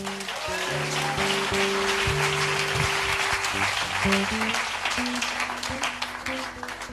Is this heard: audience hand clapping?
yes